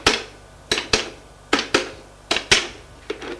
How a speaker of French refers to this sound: Le médecin soupire. Prend son téléphone et fait un numéro.